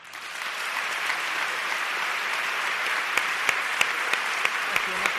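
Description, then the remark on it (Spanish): A theatre audience at a pregón breaks into steady, dense applause for the president, Paco Vélez. It holds at an even loudness for about five seconds, with a few sharper individual claps popping out toward the end. “Un aplauso al presidente, el que ha pedido el pregonero, que se ha girado incluso de su atril para ser el primero en aplaudir a Paco Vélez.”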